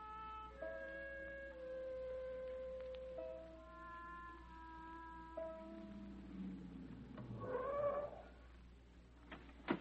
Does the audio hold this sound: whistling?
no